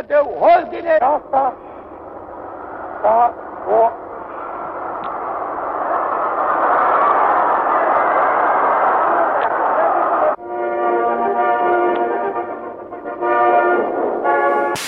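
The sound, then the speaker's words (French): Romanian radio recording, 23 December 1989: Ceaușescu speaks briefly during a speech, then a huge crowd roar with whistles and hostile slogans swells into a sustained, dense clamour with shouting, interrupting him. It cuts abruptly to patriotic choral songs broadcast by the radio, carrying on to the end. “tout d'un coup monte cette immense clameur qui me fascine, que je trouve très belle matériellement, ce grondement de la foule qui va interrompre le tyran”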